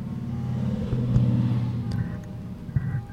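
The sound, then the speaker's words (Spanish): A steady, rumbling drone of vehicle engines as many cars and motorcycles pass by outside, with a brief louder rev near the end and no voices. “Pasan un frigo de motos, Pasan muchos carros por aquí.”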